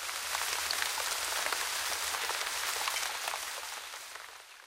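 Steady rain falls continuously at the beach, a dense hiss of drops pattering on a surface, even in loudness throughout, with no voices.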